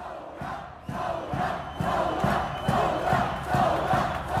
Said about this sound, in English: One chant specifically targeted the foreign minister, Jebran Basile, who's also the president's son-in-law. And that's basically become the rallying cry of the protests.